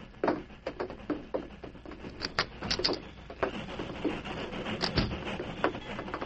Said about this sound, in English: I hear the train stopping.